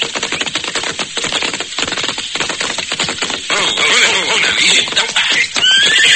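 Horses whinny and snort over a rapid, rattling clatter of hooves, loud, with the galloping rhythm pounding steadily throughout.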